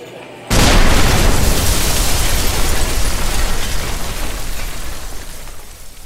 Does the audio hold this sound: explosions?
yes